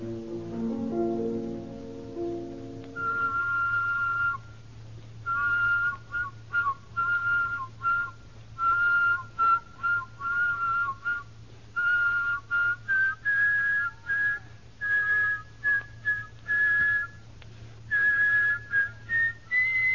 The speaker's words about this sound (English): But counterpoint whistling requires two completely independent whistles in second, third parts, in fact, all of the intervals. Now let's first have just the double melody.